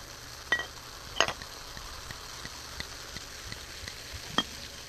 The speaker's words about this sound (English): Well, I'll pour you a nice big glass so you can enjoy. Oh, hold it up more to the microphones. Oh yeah, we got bubbles going on. Oh, that sound's coming through so nicely.